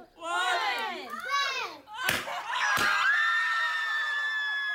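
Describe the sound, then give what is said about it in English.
A family shrieks with delight at a party where balloons stuffed with pink confetti are popped, with high, rising squeals, two sharp pops in the middle, and then a long, sustained excited scream, loud. “mostly middle-class families who gather with friends, relatives, and excitable older siblings in backyards, living rooms, and restaurants to cut cakes dyed blue, pop balloons stuffed with pink confetti, and shriek in genuine happiness and delight.”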